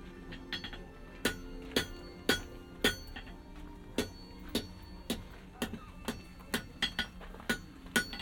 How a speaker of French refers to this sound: Et le marteau sur l'enclume.